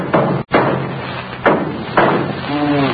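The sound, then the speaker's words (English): A hammer bangs on a car engine as it is started and cut off, two or three sharp thuds spaced apart over a dense, steady background rumble, with a brief tonal sound near the end. “Let me try something else here with this hammer.”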